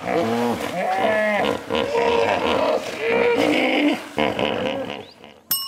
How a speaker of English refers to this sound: Hippopotamus. Yeah, that's a hippopotamus.